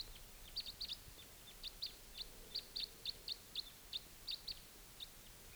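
A type 2 red crossbill flying in at 6:53 in the morning gives a string of short, sharp, high-pitched calls, about fifteen in quick uneven succession, clear over a low background hiss with no talking.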